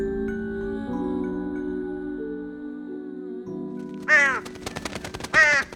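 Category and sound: bird, black bird cawing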